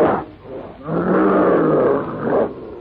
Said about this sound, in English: The ferocious brute, a fearsome monster, climbs out of the pit. Swinging forward clumsily but swiftly, the hideous features contorted with black rage, the brute roars out his challenge.